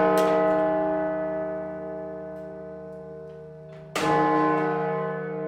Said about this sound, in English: The big one is Little John. That's right. It's about 11 ton. That's a big bell, isn't it? It's a big bell.